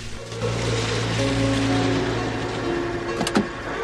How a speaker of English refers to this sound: The road outside the Philadelphia house is wet from recent rain as the taxi slowly pulls up outside.